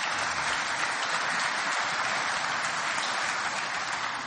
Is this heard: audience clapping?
yes